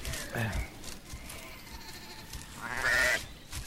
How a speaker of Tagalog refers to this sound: Napakalinis ng mga balahibo ng hayop na ito. Napakaputi. Tatawagin ko itong Tupa.